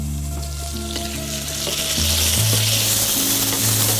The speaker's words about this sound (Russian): На плите стоит максимальная температура, и поэтому даже не убежать. Надо постоянно шевелить ее.